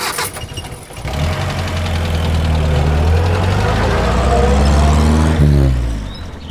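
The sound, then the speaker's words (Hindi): A car engine cranks and catches near the start, then runs steadily with a low, rumbling drone that rises and shifts as the car pulls away, fairly loud, with no one speaking. “Time नहीं है, निताई बाबू गाड़ी निकालो।”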